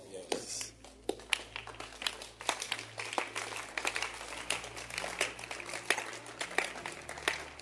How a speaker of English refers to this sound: But your hand clap was too soon. Too early.